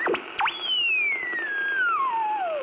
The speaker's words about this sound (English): he realised that there was music in there, and that radio circuits, when they used to feed back and go into heterodyning and all this sort of weird interference sounds, were actually making something which was, in its own way, bewitching.